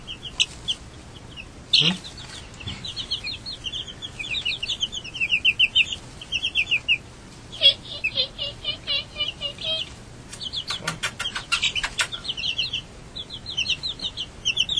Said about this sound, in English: They're so cute. They're all clumped up. They're afraid. You don't have to be afraid of me. I think chickens are pretty dumb, aren't they?